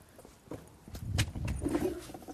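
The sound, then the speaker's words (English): Footsteps walk across the floor of a church to shut a door: a handful of soft, uneven thuds that grow slightly louder as they go, with no one talking. “Should I shut the door? Is it a bit chilly? Yeah, I'll shut the door a minute.”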